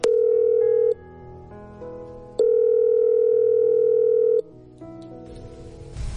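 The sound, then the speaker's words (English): A telephone ringing tone on an outgoing call placed by radio hosts as a surprise call to a mother, two long steady buzzing rings separated by a pause, loud with faint background music underneath and no talking. “So let's phone her now.”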